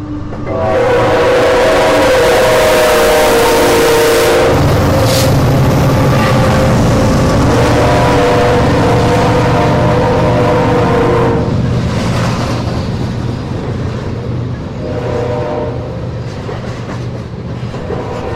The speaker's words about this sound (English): This is sort of a slow-moving train. It's a slow-moving train. It's taking a while. I looked down. It was parked, but I think it's picking up speed now, and boy, is he leaning on that horn. Let's see what we got. BNSF locomotive on our track.